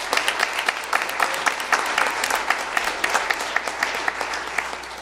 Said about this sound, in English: So let's just give everyone a big hand of applause who had part in that.